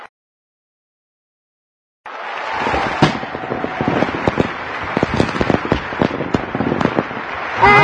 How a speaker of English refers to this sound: They're firecrackers. We have firecrackers at New Year.